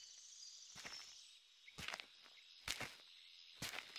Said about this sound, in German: Du hörst deine Schritte, das leichte Knirschen der Steinchen unter deinen Füßen.